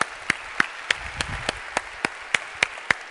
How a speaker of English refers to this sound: if you were a part of this ministry back 15 years ago, would you stand up right now for us? We just want to see you in this room. All right, let's give these people a round of applause, all right?